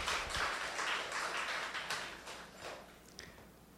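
A crowd applauds with dense, crackling clapping that holds steady at moderate volume, then thins and fades out over the last second or so. No one speaks.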